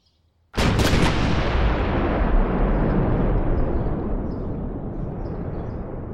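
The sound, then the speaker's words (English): In Post, Texas, a sudden, powerful blast erupts after a brief silence, followed by a continuous heavy roar and rumble, as if explosions are going off one after another, loud, with no voices. “Explosion after explosion after explosion.”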